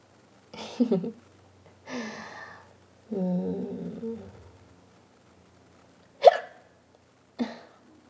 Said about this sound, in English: Excuse me. Hiccup from the tea, probably. Or, you know, could be just because I hiccup a lot all the time, randomly, for no reason. It's very rude, actually.